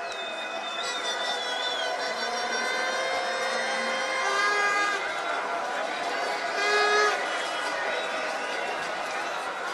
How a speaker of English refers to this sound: That celebration of the result of a soccer game is not dominated by the drone of the Vuvuzelas because the celebration occurred in Switzerland. The hum you hear in the background of the hilarity is the happy backbeat of authentic surprise.